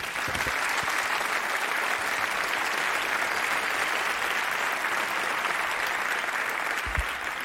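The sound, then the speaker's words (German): Sustained applause from an audience for two speakers being introduced before a talk, a dense, steady wash of many hands clapping at an even loudness for several seconds with no one speaking over it. “Eine dicke Runde Applaus bitte.”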